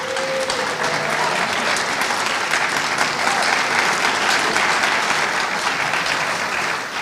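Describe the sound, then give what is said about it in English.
A large audience, including youth from the Northern Forum's Youth Eco Forum, applauds and cheers steadily for about seven seconds, a dense, loud wash of clapping with scattered shouts, continuous, with no one speaking over it. “Can you guys raise and tell us where you are? Come on, cheer up.”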